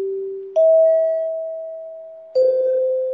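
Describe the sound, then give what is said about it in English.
Three sustained NBC radio network identification chimes ring out one after another, low, then high, then middle, each struck clearly and left to fade slowly. They are clean, with no talking. “Now you're familiar with the NBC chimes.”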